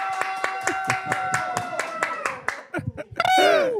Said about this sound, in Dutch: En vandaag, alsjeblieft, een applaus voor de legende, Marvin Ogunjimi.